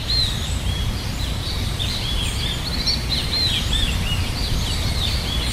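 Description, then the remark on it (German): Many birds sing and chirp continuously in a dense rainforest chorus in Suriname, with overlapping high whistles and trills over a steady low rumble of ambient noise; no voices. “Hier singen die Vögel in den Urwäldern von Suriname, dem kleinsten Land Südamerikas.”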